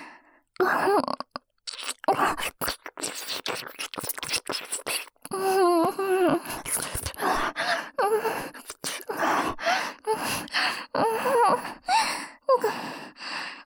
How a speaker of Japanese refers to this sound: 口元からの吐息どんどん荒くなってきてる。